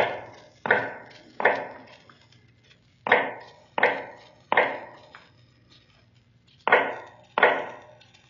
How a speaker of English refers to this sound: Now in the North Tower, cell number 105 is heard all day, a low, hammering sound. The sound of an old man making shoes in the dark.